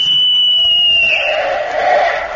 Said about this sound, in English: I remember I used to hide in the bushes on the corner of the schoolyard during recess and give a blast of my whistle, which sounded like a police whistle to passing motorists.